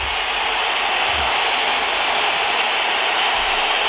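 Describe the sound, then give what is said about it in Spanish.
A huge crowd at Real Madrid's Bernabéu stadium whistles in protest, a dense, shrill wall of sound that holds steady and loud for the whole stretch, with no let-up or single voice standing out. “La gente sigue pitando, el malestar es máximo.”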